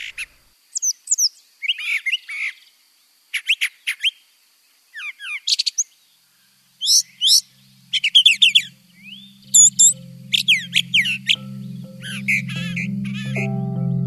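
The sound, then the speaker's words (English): A brown thrasher sings a long series of varied, rapid phrases in short bursts, loud; a low steady hum rises underneath toward the end. “Listen to this guy, the brown thrasher. He has more than 1,000 song types and can even do covers of other bird songs.”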